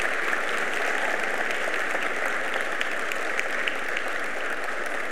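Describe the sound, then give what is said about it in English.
A large church audience claps steadily in a dense, continuous wash of applause, cheering to welcome and recognize people standing up, with occasional cheers and whoops rising above it, sustained at an even, loud level throughout. “Now another cheer.”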